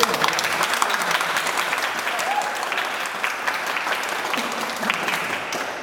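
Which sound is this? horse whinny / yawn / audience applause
audience applause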